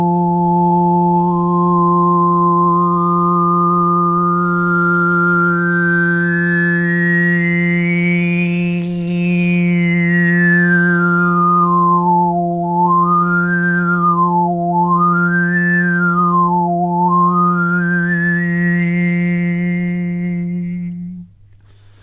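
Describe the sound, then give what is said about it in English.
A single voice sings overtones shaped with the tongue: a steady low drone while a bright, whistle-like overtone, pure resonance of the fundamental tone rather than whistling, glides slowly upward, then swoops down and up in several quick arcs above it before the tone fades out. “I'm going to use my tongue, and I'm going to show you the overtones that come out of that.”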